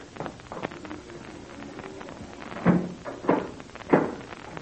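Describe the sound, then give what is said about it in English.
A door is shut and locked: a few faint clicks and rattles, then three louder, evenly spaced clunks about a second apart, with no voices. “Captain Blaze, you will close and lock that door as it was before.”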